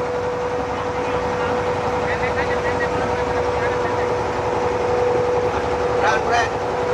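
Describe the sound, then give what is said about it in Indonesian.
A boat engine drones steadily on the water near Pulau Penyengat, Riau, Indonesia, for the whole stretch, a loud, constant motor hum with a faint tonal whine and a brief higher burst near the end. “Hati depan ada perahu.”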